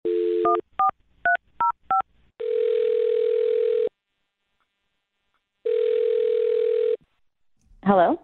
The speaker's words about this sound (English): All right. Well, I'll dial her number right now, see if we can get her on the phone. Here we go.